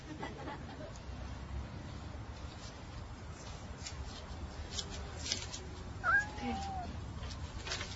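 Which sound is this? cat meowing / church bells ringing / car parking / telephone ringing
cat meowing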